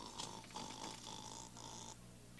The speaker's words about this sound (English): It's all clear. Papa's snoring.